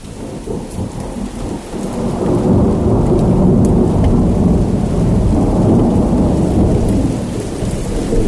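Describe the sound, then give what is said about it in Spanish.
Heavy rain pours steadily in Madrid under a deep, rolling rumble of thunder that swells after a couple of seconds and stays loud throughout, with no voices. “En Madrid llovió mucho esos días.”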